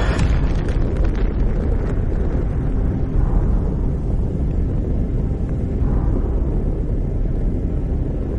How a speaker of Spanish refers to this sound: A las 8:15 de la mañana, se lanzó una única bomba y la ciudad de Hiroshima se convirtió en la primera víctima de un arma nuclear.